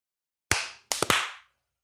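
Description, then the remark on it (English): Sharp, loud hand claps made to sync audio, with no one talking: a single clap, a brief pause, then three quick claps in a rapid cluster, each leaving a short ring. “Let's do a clap.”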